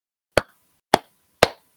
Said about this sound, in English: Bring your hands into prayer position. To your heart center. And if you feel ready, you can clap 3 times.